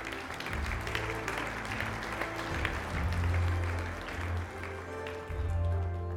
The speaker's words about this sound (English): Yeah, come on, give him a clap offering.